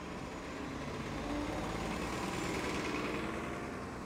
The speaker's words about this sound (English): Every few minutes or so, buses arrive at the Norwood Transit Center in the Heritage Hills neighborhood in Austin. It opened in November, replacing the old bus stop in the Walmart parking lot. It features new covered stops and signage.